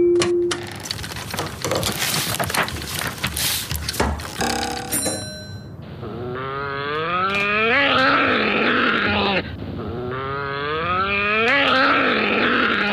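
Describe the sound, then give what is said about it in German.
An angry badger growls in two long, rough, wavering bursts with a deep, buzzing tone, following a few seconds of noisy rustling and a brief ringing chime. “Bugelmaschine, spiel mal einen Ton von einem Dachs, der sich richtig aufregt.”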